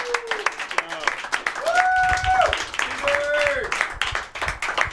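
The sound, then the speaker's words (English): A crowd applauds a winner at the presentation of the Golden Jug, steadily with dense, continuous clapping, punctuated by rising whoops and shouted cheers throughout, fairly loud. “First off, let's stand up and give a round of applause to our winner,”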